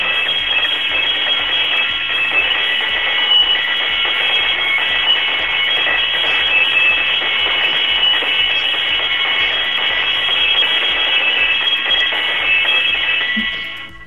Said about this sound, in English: Can you squeeze the bell in your hands and, like, make it... Because we got to change the frequency of it. Like, hold the bell in my hand? Yeah, no, like squeeze it. Like it's like your hands are a vice.